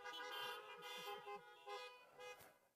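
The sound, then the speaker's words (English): Several car horns honk together in appreciation of music, a sustained, overlapping blare lasting a few seconds, fairly loud with slight swells and dips as individual horns join and drop out. “If you've been appreciating the music, give me a little honk here.”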